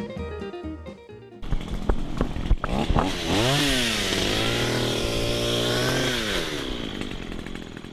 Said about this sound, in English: Walk the trail at Lake Fayetteville on a cloudy morning late last month. Maybe you heard the sounds of a chainsaw through the trees and brush. But good luck finding the source.